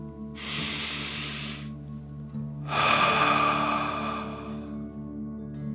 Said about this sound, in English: Last one, fill up your belly. Deep breath in and out.